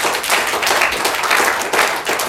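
A crowd applauds loudly and steadily, dense overlapping hand claps forming a continuous bright wash of sound with no talking over it.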